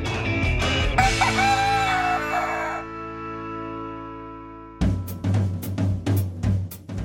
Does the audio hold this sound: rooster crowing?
yes